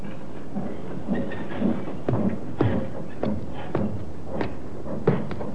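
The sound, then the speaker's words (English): A train rolls slowly into a railroad yard at Alnmouth, in the coal district around Newcastle, its wheels clacking over rail joints in a steady, uneven rhythm beneath a low rumbling drone, with no voices. “Train comes into the yard, like this one.”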